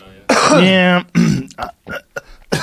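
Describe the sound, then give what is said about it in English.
A loud, harsh throat clearing with a congested, gravelly rasp from a person recovering from a cold, followed by a few shorter rough bursts like coughing, with no talking. “I'm a little congested, so I keep coughing.”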